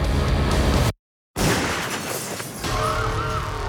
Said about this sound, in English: The glass door shattered. That was no cap gun.